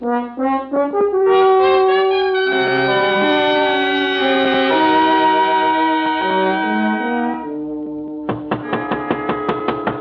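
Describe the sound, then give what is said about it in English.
Sustained orchestral music swells for several seconds, then breaks off into a rapid, insistent run of about eight loud knocks on a door, evenly spaced and pounding. “Well, don't knock the door down.”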